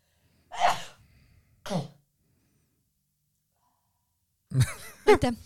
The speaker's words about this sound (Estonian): see on korralik , sul on korralik , see on siuke isa , papsi aevastus oli .